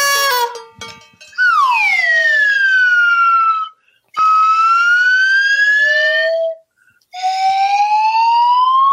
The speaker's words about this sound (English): I think my slide whistle is getting a little rusty. it's all made out of plastic.